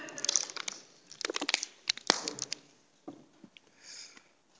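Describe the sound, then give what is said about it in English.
Someone drinks water from a plastic bottle: irregular crinkles and crackles of the squeezed bottle, with soft sips and swallows, quieter at the end. No one speaks. “I know it's a bit of a random one after the little commercial break there with the water.”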